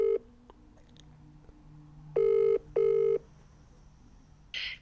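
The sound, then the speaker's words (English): An outgoing phone call from the 102.5 FM Sound Art Radio studio to a guest rings on the line: one clear double-burst ringback tone, two short buzzy tones close together, over a quiet line hiss with a brief click-tone at the start. “So it's ringing now.”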